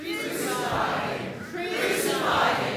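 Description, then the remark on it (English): A large group shouts the chant "Crucify him" in unison, getting louder: two loud swelling bursts of massed voices, the second slightly stronger than the first, energetic. “your next line, you're going to say it three times, crucify him. And as you do, you get louder”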